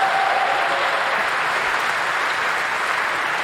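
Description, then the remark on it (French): Steady applause from an audience, a dense, even patter of many hands clapping at a constant level for several seconds, with no voices standing out. “J'entends déjà des applaudissements avant même que vous ayez terminé.”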